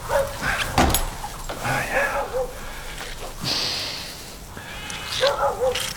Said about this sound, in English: Come, boy! Keep the flock away there. Good dog.